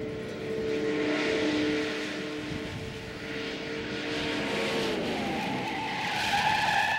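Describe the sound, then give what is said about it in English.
An old car brakes hard from 60 mph during a braking test, tires squealing in long wavering tones over a steady roar of wind and road noise, loud with no voices. “You know, every time I do this test, I realize 60 mile an hour is pretty fast in one of these old cars to just be slamming on the brakes.”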